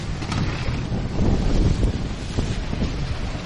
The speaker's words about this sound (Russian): Да, друзья. Вот мы подставились ветру. Но сегодня, кстати, не очень сильный ветер, да? Сегодня не очень, да.